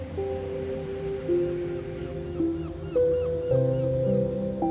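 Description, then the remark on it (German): Gentle, warm sea waves wash and swish steadily over feet beneath soft, sustained musical tones, the water noise swelling a little louder partway through. No one speaks. “Das Wasser ist ganz warm und schwappt dir weich über deine Füße.”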